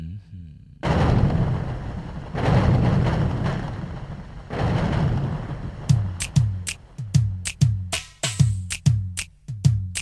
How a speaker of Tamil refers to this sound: இடி இடிக்குது இடிக்குது, இப்ப இங்க இப்ப இங்கு மழை வர போகுதடி.